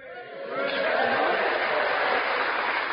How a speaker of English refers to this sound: So that's right, you applaud their contribution.